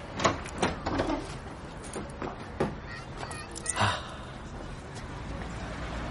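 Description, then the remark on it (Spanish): Keys jingle and click in the lock of a home's door, followed by the door being pushed open: a quick series of sharp metallic rattles and knocks, with a louder scrape near the middle and quiet room tone. “Asher saca sus llaves y abre la vivienda”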